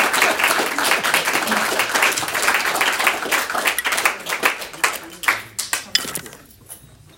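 A crowd applauds with dense, steady clapping that holds strong for several seconds, then thins into scattered individual claps and fades out.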